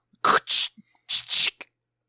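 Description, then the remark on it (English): A voice imitates gunfire with two quick pairs of harsh, hissy bursts, each pair a short clipped burst followed by a longer breathy blast, fairly loud with a brief pause between pairs. “That's my gun noises. Oh, that's a scary gun.”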